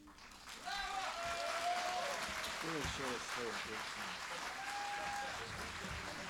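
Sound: audience applause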